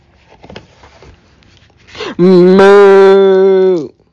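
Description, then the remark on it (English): A voice imitates a cow's moo: one long, loud, steady lowing call held for nearly two seconds. It comes after a brief stretch of quiet, faint murmuring. “Under the mask, who do you see? A cow.”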